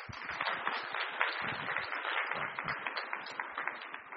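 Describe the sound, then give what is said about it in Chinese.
Steady applause from a church audience welcoming a guest pastor to preach fills the whole stretch, a dense patter of many hands clapping at once, fairly loud with no talking over it. “我们一起掌声欢迎。”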